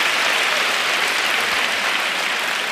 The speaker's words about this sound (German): Mal komm, gib mal einen großen Applaus heute an die albanische Fraktion. Mashallah. Mashallah.